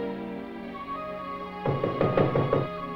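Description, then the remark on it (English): A quick series of firm knocks by Philip on a woodman's cottage door, several sharp raps in a row, heard over soft, sustained background music. “Philip knocks.”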